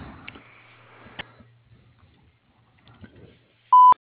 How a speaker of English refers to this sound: Thank you for choosing Forest Acres Florist. Please leave your message at the sound of the beep.